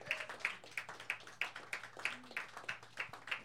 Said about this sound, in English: While they're setting up, let's just give one more round of applause to two great features tonight.